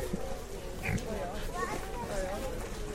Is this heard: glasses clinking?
no